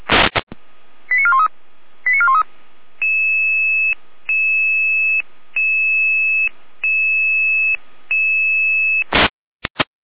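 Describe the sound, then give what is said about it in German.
Fire brigade dispatch alarm tones at 17:06 for an emergency call about a helpless person behind a locked apartment door: two quick warbling electronic chirps, then a run of five steady, evenly spaced tone pulses, framed by sharp clicks at the start and end, with no voices. “Es ist 17.06 Uhr, hier ein Alarm.”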